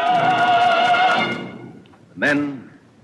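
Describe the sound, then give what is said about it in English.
Artillery battery horses cry out as a shell swoops down among them: a horse whinnies loudly and at length, trailing off, then after a short pause lets out a second, briefer neigh. No distinct impact or explosion stands out. “The shell swoops down among the battery horses standing there apart. A half dozen horses start, they stumble, they fall, their legs stiffen.”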